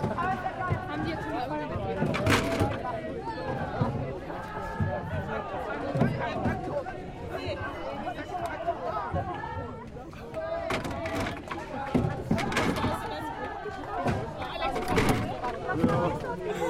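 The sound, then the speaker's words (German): After a canoe race, canoe paddles are tossed one after another into a large grey waste bin at a boat landing, making sharp, hollow clattering knocks at irregular intervals over a steady background of crowd chatter and voices. “Hier vor mir steht eine große graue Mülltonne. Da werden jetzt die Stechpaddel reingeworfen.”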